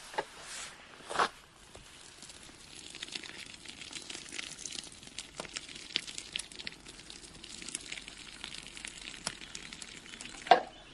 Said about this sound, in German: Jetzt gießt er hier das Nudelwasser ab. Ja.